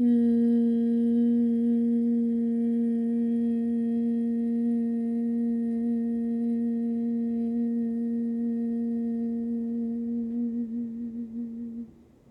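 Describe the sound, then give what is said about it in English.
A single long, steady hum on one low pitch, fairly loud, exhaled after a complete inhale during a breathing exercise, held for about twelve seconds before it wavers and trails off as the breath runs out. “And exhale with a hum.”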